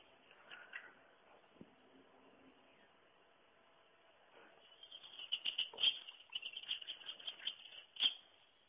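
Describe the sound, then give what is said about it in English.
Grey wagtail (Motacilla cinerea) calls: a run of sharp, high, clipped notes repeating rapidly after a quiet stretch, fairly faint and heard over a soft hiss of outdoor background noise. “Well, this is what the grey wagtail sounds like.”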